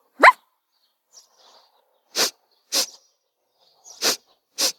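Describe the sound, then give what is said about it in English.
A puppy gives one sharp, rising yelp, then four short, breathy barks follow in an uneven rhythm, moderately loud, with no one talking. “The puppy has gone to find them.”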